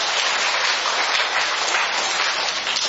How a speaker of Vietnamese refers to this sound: Rồi, một tràng pháo tay thật lớn thưa anh chị em.